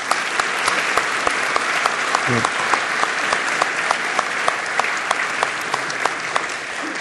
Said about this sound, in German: Und schaut euch diese Menschen mal an und lasst uns denen doch mal jetzt einen herzlichen Applaus geben.